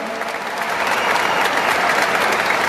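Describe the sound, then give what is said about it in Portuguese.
A steady round of applause for new Military Police academy graduates and their families in the state of Ceará, Brazil: dense crackling clapping from many hands that holds at an even, fairly loud level for a few seconds without any speech. “A vitória é de vocês e eu quero que mais uma vez pedir uma salva de palmas para vocês e para os seus familiares.”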